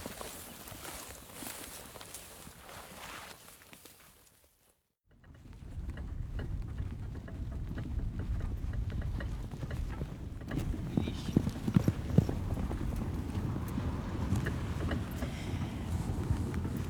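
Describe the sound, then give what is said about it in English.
Horse hooves clip-clop steadily on a hard surface as a horse-drawn wagon giving a man's offered lift rolls along, the rhythmic clatter fairly loud, with wind and rumbling wheel noise underneath. “I've been offered a lift by a man who's turned up clearly because of the midsummer solstice”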